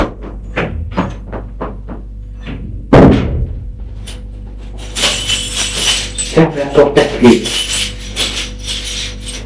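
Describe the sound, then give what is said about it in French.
A run of quick taps leads to a heavy door thud, followed by several seconds of scraping, metallic rattling as a key is worked and turned in the lock. “Ferme la porte à clé.”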